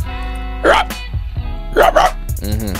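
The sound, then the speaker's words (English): A person imitates a dog barking, letting out two loud, gruff barks about a second apart, followed by a brief voiced sound at the end. “One more bark for the people.”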